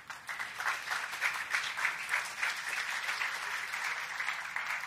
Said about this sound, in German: Wir sind Ihnen, wir sind dem Bundeskriminalamt und auch den Landeskriminalämtern, die hier mit uns wirklich eng kooperieren, enorm dankbar. Vielleicht auch einmal einen Applaus an Sie.